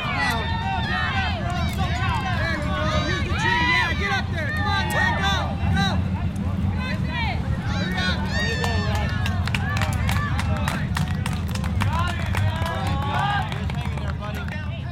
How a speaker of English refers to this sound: The crowd cheering the climbers on includes friends, wives, children, and fellow climbers. Everybody's got their necks craned upwards and hands over their eyes to shield the sun.